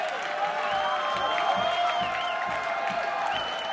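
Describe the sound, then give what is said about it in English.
A large sold-out concert crowd roars steadily, with whoops and whistles rising above a continuous wash of cheering and applause that never lets up. “Sold out crowd. Loving every minute.”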